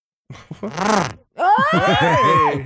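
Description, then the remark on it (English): A buzzy kazoo imitates a motorcycle roar in two loud bursts: a short revving swell, a brief pause, then a longer growl whose pitch climbs and wavers before cutting off. No one talks. “Ooh, it's a motorcycle.”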